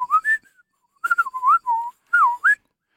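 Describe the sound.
A person whistles a made-up birdlike call in three short bursts of sliding, warbling notes around a mid-high pitch, separated by brief pauses, with no talking.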